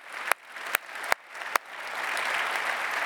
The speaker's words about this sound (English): I'm not sure I can keep up with that gospel quintet that was just up here. Can we give them a round of applause one more time?